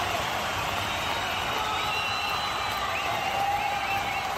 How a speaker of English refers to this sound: There are 50,000 screaming fans here. I said somebody scream!